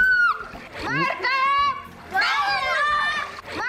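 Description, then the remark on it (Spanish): Children shriek and shout excitedly while water splashes around them, a busy scene of kids playing in a swimming pool with high-pitched voices rising and falling throughout. “Por favor, que les den a esos niños una videoconsola.”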